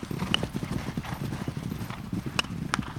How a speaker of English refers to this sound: The thundering hooves tell you it's horses.